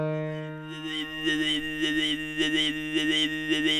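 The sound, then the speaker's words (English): A sustained low sung drone from Tuvan throat singing, steady and buzzy, with whistling overtone melodies wavering rhythmically above it; no instruments accompany the voice. “First, there's the low drone note, which is this one.”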